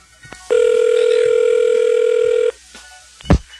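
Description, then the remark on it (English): A single loud, steady telephone ring tone hums for about two seconds on a call made for a phone survey, followed by a brief quiet pause and a sharp click like a receiver being picked up. “So without further ado, let's get on with the phone survey.”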